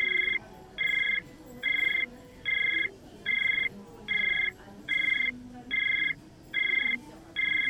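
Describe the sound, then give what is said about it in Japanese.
A telephone ringing tone on an unanswered call to a mobile phone number repeats in about ten evenly spaced electronic bursts, steady and moderately loud, with only a faint hiss of background noise between them. “じゃあ早速今かけてみますね。”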